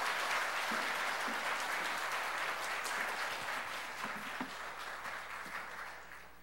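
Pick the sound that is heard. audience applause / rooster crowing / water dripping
audience applause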